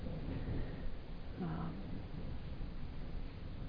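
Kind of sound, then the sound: nature, thunder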